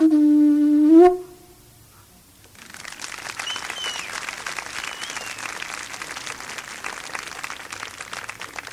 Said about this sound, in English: for whom I think we are not hearing anywhere near enough applause.